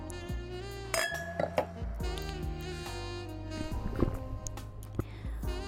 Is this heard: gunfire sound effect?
no